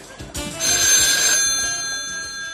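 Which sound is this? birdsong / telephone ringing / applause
telephone ringing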